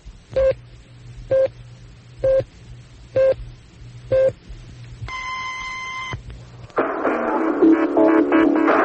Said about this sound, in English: this is the American Forces Radio Service. 100.2 FM at Torrejon, 89.7 FM at Zaragoza. News on the Hour is next. At the sound of the tone, it'll be 3 o'clock.